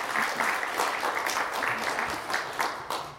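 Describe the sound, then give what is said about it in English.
A crowd of teachers applauding themselves in congratulation, a dense wash of many hands clapping at once, moderately loud and continuous for a few seconds with no talking over it. “So congratulations, and I would like to give a round of applause for ourselves.”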